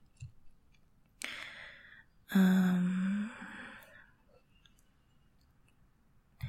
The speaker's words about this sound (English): Heavy breathing.